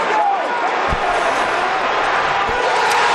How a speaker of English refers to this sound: After 97 years, including three and a half, waiting for this team to take the home ice, the sellout crowd of 17,151 people, and really a lot more with all the standing room guests, finally got that special moment.